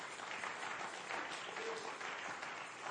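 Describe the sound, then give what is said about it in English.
A crowd claps steadily, a dense wash of many hands applauding at once with no pauses, fairly loud and sustained throughout; the people are giving the Lord a hand clap in the morning. “Give the Lord some hand clap here this morning if you are looking for that.”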